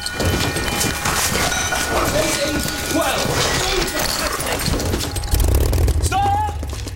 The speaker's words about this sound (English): One after the other, Spitfires are starting up. 12 Merlins, all at 1,200 revs or thereabouts. The power of the moment is awe-inspiring. The still morning air reverberates with the sound of harnessed energy.